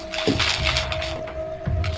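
Paper maps are taken out, rustling and crinkling continuously for about two seconds, a dry, papery crackling with a few low thumps of handling and a steady faint tone humming underneath.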